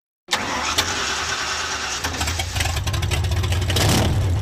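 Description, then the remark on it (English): The engine of Warwick Thornton's classic Bull Chaser car cranks and roars to life at the Red Centre Nats event in Alice Springs, then keeps running with a loud, throaty rumble that deepens and builds as it revs. No one speaks. “So Elsie Lang went along to check out Warwick's classic Bull Chaser.”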